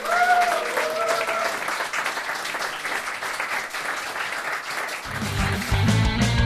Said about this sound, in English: Ladies and gentlemen, that's the end of that round and the end of this section. Round of applause.